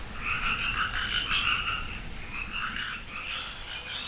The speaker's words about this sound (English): And then the frogs, the amphibians, and the reptiles come in to join the chorus, and they join the chorus about January after the first rains, and they're really loud.